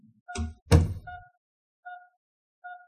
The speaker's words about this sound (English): She opened the door and went in. She closed the door carefully behind her.